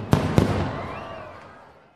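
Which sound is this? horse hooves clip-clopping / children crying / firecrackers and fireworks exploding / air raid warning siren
firecrackers and fireworks exploding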